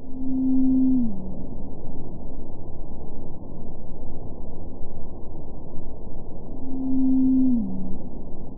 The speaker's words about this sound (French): La baleine bleue émet son chant à 5 Hz, C'est donc un chant grave, comparé à la baleine à bosse que l'on vient d'entendre, qui, elle, émet entre 100 et 4000 Hz, voire 12 000 Hz pour ses plus belles vocalises.